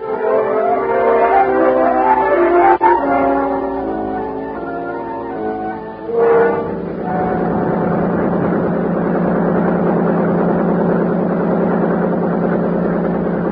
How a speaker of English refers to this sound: Time on Buster's boat pulled us up the lake at an easy 30 knots.